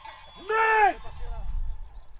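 A single wavering sheep bleat rings out clearly for under half a second, followed by low, rumbling background noise with no further calls.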